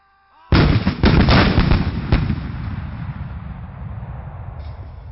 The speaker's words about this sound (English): Shouted Sean back through the booms of the guns.